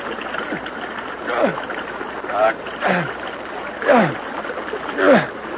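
Water sloshes and splashes in rhythmic bursts about once a second as someone in a stream kicks the water, over a steady rushing background of flowing water.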